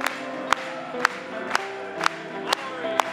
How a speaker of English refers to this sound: Let's clap it one more time.